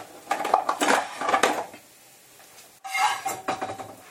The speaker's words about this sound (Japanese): 完成。じゃあお皿に盛ります。盛ります。お皿に乗ったところを撮影するわね。